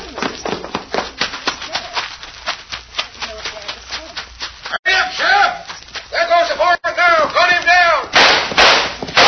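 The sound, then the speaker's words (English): A rapid, irregular volley of sharp gunshots cracks for several seconds, followed by loud shouting voices with a few more bangs underneath. “I'll catch up with you after finding out about that shooting.”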